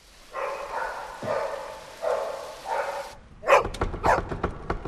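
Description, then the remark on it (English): A dog barks repeatedly at a front door: a run of tonal, evenly spaced yelps gives way to a quick cluster of sharper, punchier barks near the end. “Hearing the dog barking, Arthur runs to the top of the stairs.”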